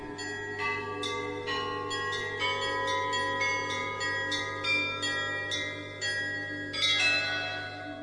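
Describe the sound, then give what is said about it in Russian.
A monastery bell tolls for the all-night vigil of the Feast of the Transfiguration, in a steady run of overlapping strikes, each ringing out and blending into a dense, resonant chime that stays fairly loud throughout, with no voices. “Во время ее облачения раздался удар монастырского колокола.”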